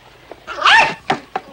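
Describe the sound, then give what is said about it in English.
A dog gives a drawn-out, slightly whining bark, then two short, sharp barks in quick succession, clear with no talking. “And dogs, too!”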